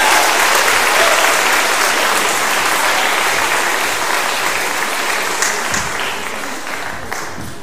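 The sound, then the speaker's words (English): A crowd applauds a musical performance steadily, a dense wash of many hands clapping at once, loud and sustained before gradually thinning and fading slightly toward the end. “Round of applause for that, the music.”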